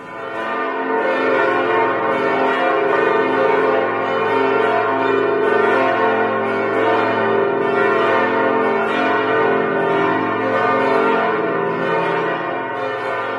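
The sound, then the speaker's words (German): A full peal of church bells rings continuously from the tower of Lübeck Cathedral in Lübeck, several deep bells overlapping in a dense, resonant wash that stays loud and steady throughout, with no voices. “Das waren die Glocken des Lübecker Doms.”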